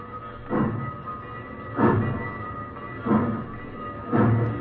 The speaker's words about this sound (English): The train rolled across the fields and plains and sang out at night on its way to Mexico.